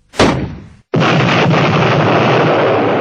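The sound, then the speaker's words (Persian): The first artillery shell is fired with a heavy blast that booms out loud and quickly fades, then after a brief pause a dense, roaring rumble of continuous noise takes over and holds steady to the end. “توکل به خدا بکنین و 45 قدم، حالا 40 قدم یا 50 قدم یادم نیست دقیقا، به راست حرکت کنین و بعد اولین گلوله رو شلیک کن و اون آیه عملیات جنگ بدر رو بخون.”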